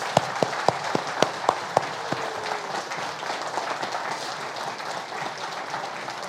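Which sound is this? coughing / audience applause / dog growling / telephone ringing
audience applause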